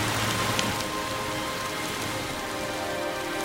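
heavy rain falling

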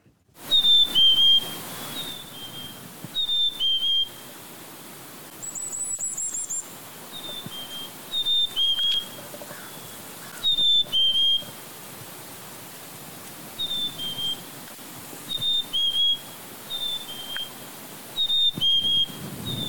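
chickadee spring song

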